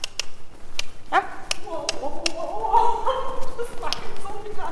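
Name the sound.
horse hooves trotting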